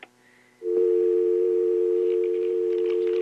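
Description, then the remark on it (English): A steady, loud dial tone begins abruptly after a brief quiet moment of faint line hiss, then holds continuously and unbroken to the end. “But with the magic waving of a wand, I will turn that into a real live phone call.”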